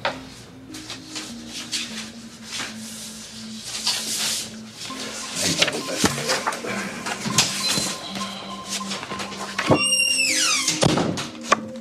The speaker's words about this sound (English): gets up and walks out, closing the door behind him.